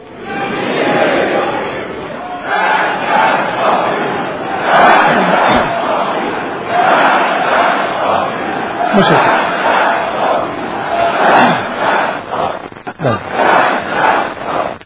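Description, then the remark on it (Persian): A large crowd shouts in unison in answer to a speaker's question about how the war should end: a loud, sustained roar of many voices rising and falling in repeated waves of chanting for about fifteen seconds. “آنچه که شما امت شهید پرور با هم فریاد میزنید این چیز مشخصی بود، اون چیزی که ما باید بگیم باید روشن بشه.”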